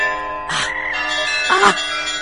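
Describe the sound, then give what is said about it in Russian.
Sunday church bells ring out with two clear strikes about a second apart, their bright, humming tones sustaining and overlapping into a continuous metallic shimmer. No voices are heard. “Маэстро, сегодня воскресенье, будьте добры, колокольный звон.”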